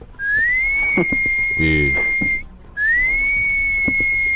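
whistling

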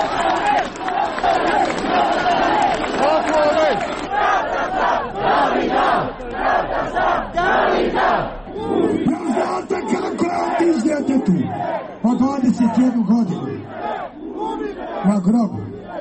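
protest crowd chanting

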